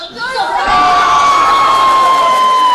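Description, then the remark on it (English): A crowd at a funeral procession murmurs low, then within a moment swells into loud, sustained shouting and cheering as a young man on the bier sits up, with one voice holding a long high cry above the dense roar of many people. “A murmur turns into shouts as the man sits up, breath returning to his lungs.”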